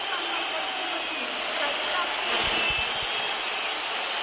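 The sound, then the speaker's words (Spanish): A football stadium crowd roars steadily while the team lineups are read out, thick with shrill whistling and scattered clapping, a loud, unbroken wash of noise from start to finish. “Se oyen mucho los pitos, pero insisto, los planos de televisión enfocaban a la grada y es verdad que había mucha gente aplaudiendo.”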